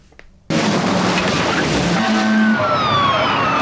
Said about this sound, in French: Et cette incroyable chasse-poursuite-là, voiture contre voiture, etc., à toute vitesse, se termine dans l'eau.